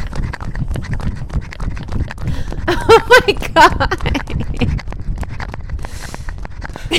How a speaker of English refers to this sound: I love the little paw sounds.